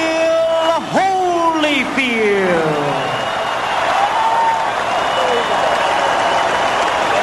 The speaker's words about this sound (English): As this crowd salutes Evander Holyfield, who really was the real deal tonight.